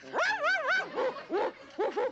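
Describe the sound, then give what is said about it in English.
Loud barking from a big dog: three or four drawn-out, wavering yelps in quick succession, with no one talking. “A big dog, yeah.”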